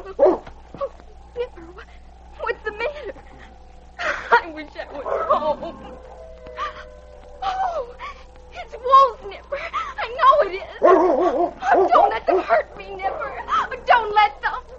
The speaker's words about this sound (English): It was Nipper's barking that awakened her.